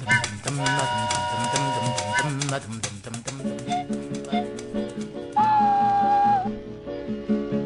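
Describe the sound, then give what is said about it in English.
A wooden flute sounds a sustained, wailing note in imitation of a train whistle, rising out of a busy band accompaniment for about a second near the end. “And the train whistle was adopted for the wooden flute as well.”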